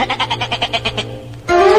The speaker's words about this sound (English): Wait, here are three little fellows from the farm we left out. The sheep.